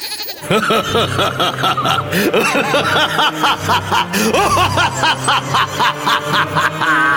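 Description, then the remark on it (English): A loud, quavering voice lets out a rapid run of billy goat-like bleats, the wavering cries stacking up one after another over a steady, busy background. “He's also got a dash of billy goat, which I cannot explain for the life of me.”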